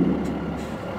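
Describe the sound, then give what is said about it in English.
A semi-truck's engine rumbles steadily, a deep continuous drone with faint hissy bursts riding above it, and no voices. “So we all gather up into his semi-truck.”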